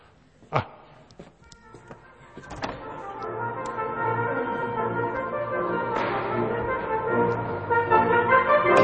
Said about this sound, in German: Himmlisch. Da stehen sie alle, die jungen Menschen, mit ihren Posaunen wie die Engel.